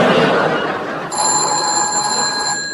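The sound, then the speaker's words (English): A telephone bell starts ringing partway through, a steady shrill tone with bright, high harmonics holding over a busy, noisy background, with no one speaking. “Answer that, will you? All right, sir. Warmington 333.”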